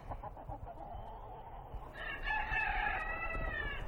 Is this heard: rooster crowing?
yes